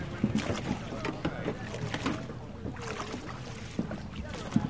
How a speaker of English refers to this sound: The Queen boards an old-fashioned steamboat, waves to the crowd, and then sets off to follow the swan uppers as they row upstream in wooden boats known as skiffs.